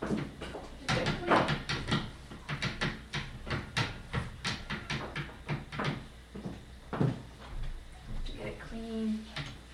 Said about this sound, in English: Now I have to wipe off that tray.